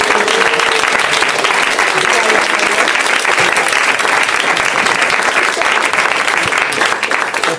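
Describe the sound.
Loud, sustained applause from a show audience for a guest who played the show's game, a dense wash of clapping that holds steady for several seconds with a faint murmur of voices underneath.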